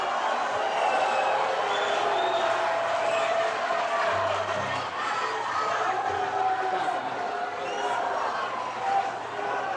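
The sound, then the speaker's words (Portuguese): A large audience fills the space with continuous loud noise, applause mixed with booing and shouting voices, as a singer addresses them before singing, a dense steady roar that never lets up over the whole stretch. “Eu quero pedir aos que aplaudem e aos que vaiam um pouco de lucidez nesse momento para poder entender o que eu vou cantar.”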